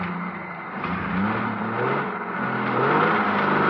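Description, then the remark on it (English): A car engine revs up and pulls away, its droning pitch climbing steadily as it accelerates, loud and continuous over a broad rushing mechanical roar with no voices. “Start driving.”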